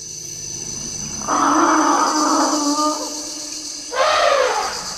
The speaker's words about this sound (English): This is what it sounds like when a family of elephants drinks together from a marsh in the Central African Republic.